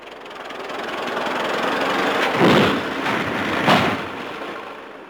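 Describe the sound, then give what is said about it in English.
A tractor engine, just fixed with a new part, runs steadily, a loud continuous mechanical rumble with a couple of brief surges in intensity partway through; no one speaks. “How did you get the tractor running?”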